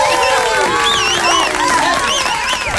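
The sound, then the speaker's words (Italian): A loud, steady burst of audience applause lasting about three seconds, mixed with cheering, whoops and shouted voices rising and falling above the dense clapping. “Applausi a scena.”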